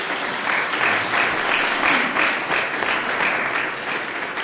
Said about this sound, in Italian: Quindi grazie Lions, un applauso, una cosa.